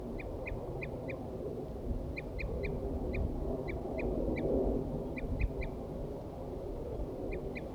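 wild birds calling

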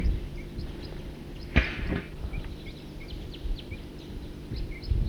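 bird alarm call

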